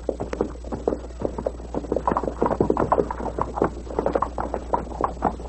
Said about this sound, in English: I hear something. I do too now. Sounds like several horses.